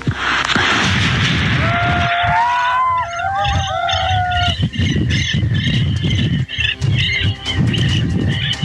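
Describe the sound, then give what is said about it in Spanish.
Repeated sharp gunshots crack through a noisy outdoor scene during a police raid with armored vehicles, in an area where it is raining, while shrill high whistling tones rise and fall partway through. No one speaks. “Sí hubo disparos, lo que pasa es que no hubo heridos.”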